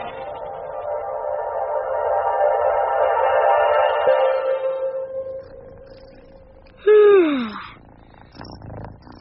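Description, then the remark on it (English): A loud, rumbling purr from a pet cat called Kitty fills the first several seconds, easing into a steady hum, then a brief sharp cry slides downward in pitch. No one speaks. “Majesty shouldn't purr so loudly.”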